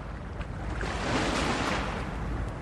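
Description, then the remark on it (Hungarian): A steady, broad wash of sea waves murmuring, rising gently to a soft swell in the middle, with a low rumble underneath and no voices present. “Csak a tücskök cirpelnek, csak a tenger morálik, és egyet csak esik az eső.”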